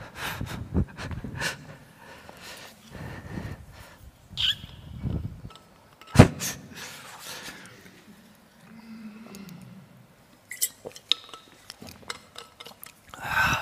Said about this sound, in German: Bevor ich das mache, muss ich mal einen Schluck Wasser trinken.